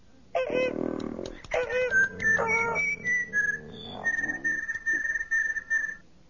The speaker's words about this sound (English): Han, sitting next to Leia, rubbed his chin. Leia couldn't think of what to say. From behind her came a whistling echo.